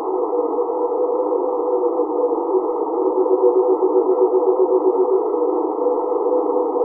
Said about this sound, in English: Would it sound like a human choir? Let's find out. Here's a cricket orchestra. And here's our cricket ensemble, slowed again by a factor of 10. I put a filter on it to favor the frequencies of human speech. What do you think?